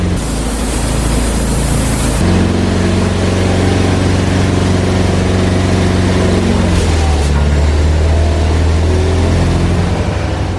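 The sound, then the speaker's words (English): A machine's engine runs loudly and steadily, driving a hydraulic pump fixed to it in a system filled with hydraulic fluid and connected to rams; a hissing spray cuts off early, leaving a droning hum whose pitch shifts partway through, with no voices. “The pump is fixed to the engine, and the whole system is filled with hydraulic fluid.”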